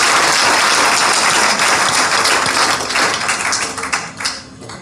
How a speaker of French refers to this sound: On applaudit pour vous également.